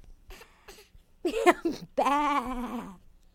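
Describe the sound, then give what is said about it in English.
A sheep bleats twice: a short wavering cry, then a longer, quavering baa, after a few faint clicks and taps at the start. “And look at the sheep. Oh, he says, baa.”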